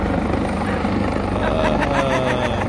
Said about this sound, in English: And here he comes in his own helicopter.